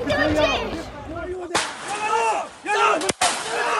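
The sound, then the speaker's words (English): Sharp gunshot cracks, fired from down below in a village, cut through a crowd of shouting voices, one abrupt report midway followed by two more in quick succession near the end. “We've just heard two shots fired from down below in this village.”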